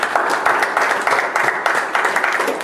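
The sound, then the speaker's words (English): A crowd applauds the Lord steadily, many hands clapping in a dense, continuous patter that stays fairly loud and even throughout, with no voices standing out. “Let's give the Lord a hand of applause.”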